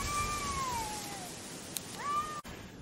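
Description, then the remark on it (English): A cat meows twice at feeding time in Italy, first a long drawn-out meow that slides downward, then after a pause a shorter rising one, both clear over a steady hiss of background noise with no talking. “Hey pussies, cat dinner is ready.”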